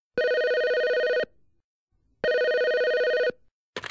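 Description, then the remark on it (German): A telephone rings for an incoming call to the company Firma Braun, in two long, steady electronic bursts with a pause between, a bright harmonic tone, and a brief sound starts right at the end. “Anruf 2.”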